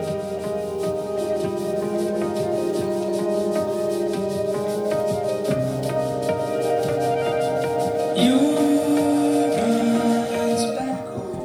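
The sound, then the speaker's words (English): Smooth, mellow instrumental music from an album made with a professional trumpet player, with sustained keyboard chords; a brighter trumpet line seems to come in toward the end, playing steadily with no voices over it. “But he just did an album with a professional trumpet player, and it's really good. So this is kind of what it sounds like.”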